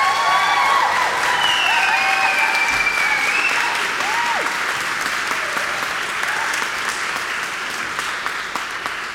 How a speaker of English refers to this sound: We know that we have graduates in the choir as well. We would like to give the graduates and the entire choir a round of applause.